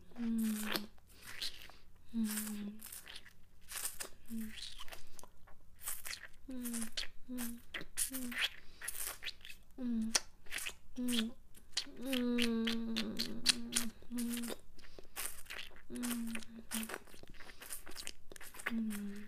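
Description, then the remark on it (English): Wet chewing and slurping on a steak, a steady stream of crunchy bites and smacking mouth sounds, with soft voiced murmurs mixed in throughout. “You like the feeling of soft, glassy lips slurping on this steak?”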